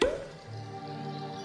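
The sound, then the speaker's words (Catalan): A single crisp cork pop right at the start, fairly loud, followed by a soft, sustained musical hum that lingers underneath. “Destapa.”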